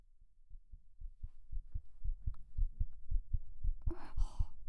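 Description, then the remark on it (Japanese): A fast, steady heartbeat thumps in muffled, low paired beats, heard with an ear pressed against a chest; a soft breathy rustle rises near the end. “ドキドキ聞こえなくなっちゃうから静かにしておくね。”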